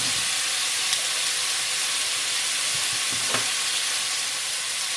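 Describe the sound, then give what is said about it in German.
Steady, dense sizzling of meat being seared in lard in a pot, a continuous crackling hiss with a few sharper pops and faint low clunks, loud and even throughout with no voices. “Ja, wie ihr hört, wir sind jetzt im Topf. Jetzt braten wir immer an. Im Schmalz.”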